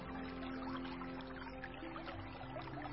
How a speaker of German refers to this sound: Und von einem kleinen Felsenvorsprung plätschert ganz wunderbar klares Wasser. Ein Mini-Wasserfall.